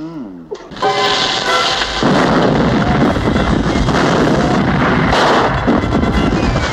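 A loud barrage of cannon fire bombarding a ship: heavy booms overlap into a dense, continuous roar of blasts and rumble after a brief shout at the start.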